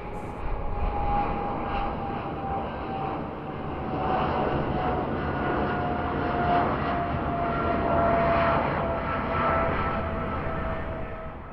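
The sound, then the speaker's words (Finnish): A steady, loud airplane engine drone fills the whole recording, a broad rumbling roar with a faint sustained whine on top, with no voices. “Ja nyt hypätäänkin lentokoneen siiville.”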